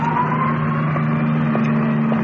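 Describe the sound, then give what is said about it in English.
An ambulance carrying an injured man from a car crash pulls away through steady traffic, its engine humming loud at first with a slowly rising whine, surrounded by a constant wash of road noise. No one speaks. “Ambulance disappearing in the traffic.”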